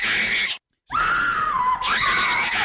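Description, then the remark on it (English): A woman held in an airport security holding cell screams loudly and shrilly in two long, sustained bursts separated by a brief silent gasp, the cry wavering and straining. “Security put her in a holding cell and waited for the screaming to stop.”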